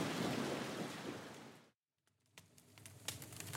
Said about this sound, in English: It's raining too hard. Let's go home. My feet are wet through.